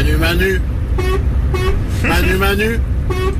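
A truck's horn honks out a short tune in a series of loud, sustained notes that shift in pitch, with steady low engine rumble underneath.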